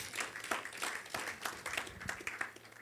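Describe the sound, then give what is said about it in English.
A crowd claps for the Lord Jesus, steadily for a few seconds. It is a dense, moderately loud patter of many hands with a few sharper claps standing out, and no voices. “Clap for the Lord Jesus.”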